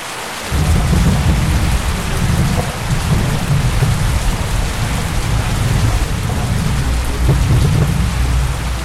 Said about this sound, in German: Mittlerweile regnet es in Strömen